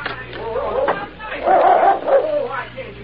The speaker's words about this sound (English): But that dog, he don't seem to come to me. Luke, tell your mutt to quiet down. Quiet. Now, boy, quiet now. Come on in, Missouri. He won't get you. He's chained.